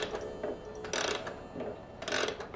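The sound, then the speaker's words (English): A clock being wound and set back for the seasonal time change, with dry ratcheting clicks coming in short bursts and quick mechanical ticking between them. No voices. “It's time to set the clocks back.”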